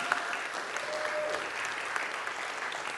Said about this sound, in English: Dotted all around our church and right at the back there, quite a number of people who work for the National Health Service. Let's give them a great big clap.